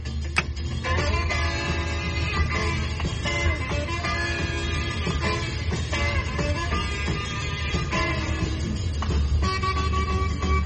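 An instrumental karaoke song with bright, brassy melody lines plays steadily inside a car, loud and continuous for the whole stretch, with a low rumble underneath and no voices.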